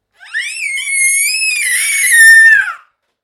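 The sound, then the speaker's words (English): A baby lets out a single sustained, high-pitched scream lasting a few seconds, loud, rising slightly before cutting off abruptly into silence. “Is that right? Screamer.”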